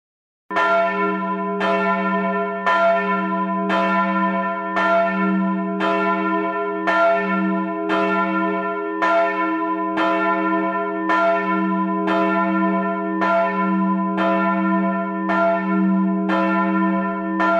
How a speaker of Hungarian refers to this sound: Most a következőkben a Nyíregyházára utazunk gondolatban, ahol a Társszékesegyháznak a 770 kg-os harangját fogjuk tőle hallani, E1 alaphangú, és 1947-ben, tehát már a II. Világháború után öntötte Szlezák Rafael Rákospalotán.